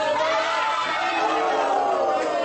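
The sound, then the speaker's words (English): A large crowd of locals watching Brazil's national soccer team, the Seleção, play roars steadily, a dense wash of many voices shouting and cheering together with no pauses, loud throughout and swelling slightly toward the end. “As the game ebbs and flows, so too does the crowd.”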